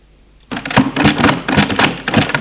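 front door opening

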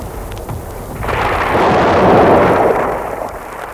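thunderclap

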